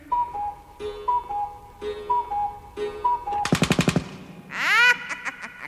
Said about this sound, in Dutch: Want slaat de klok 5 uur.